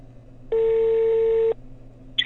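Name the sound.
telephone call ringing tone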